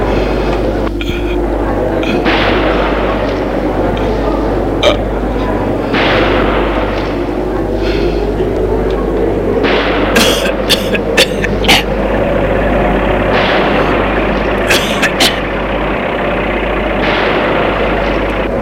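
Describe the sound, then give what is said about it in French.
Scattered sharp cracks of gunfire burst out irregularly, clustering in quick volleys toward the middle and end, over a steady, heavy low rumble that never lets up. “Il s'arrête de tirer.”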